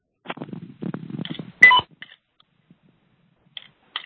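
Short, high electronic beeps sound at irregular intervals over a phone line, following a stretch of muffled rumbling and a sharp burst of noise. No one speaks.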